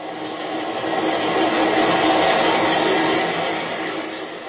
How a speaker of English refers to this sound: You are in Chicago. The elevated trains are roaring overhead.